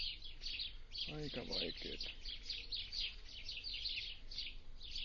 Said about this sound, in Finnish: Kuten ehkä kuuluukin, niin linnut laulaa ja sitten koen kuuluu niin bää ja kilkati kalkati tuolta ympäristöstä.